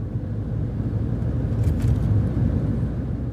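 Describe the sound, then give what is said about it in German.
A steady, low rumble of a car driving from the northern shore of Poyang Lake in China to the Yangtze River, heard as continuous road and engine noise at an even loudness throughout, with no voices. “Vom nördlichen Ufer des Poyangsees ist der Yangtze mit dem Auto schnell zu erreichen.”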